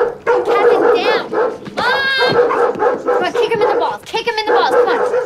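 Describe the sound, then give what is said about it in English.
Two excited Doberman dogs bark, yip and whine in a rapid, overlapping burst that keeps going loudly for several seconds as they run up inside a home's open-plan living room and pin a person into the corner. “two Doberman dogs run up and pin Andrew into the corner”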